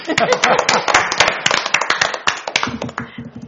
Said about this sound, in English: I feel like a round of applause for that. Yeah. No, we can do better than that, but all right.